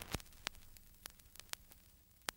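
Quiet vinyl surface noise with a soft hiss bed and scattered sharp pops and clicks at irregular intervals, like a record needle riding an old groove; no voices.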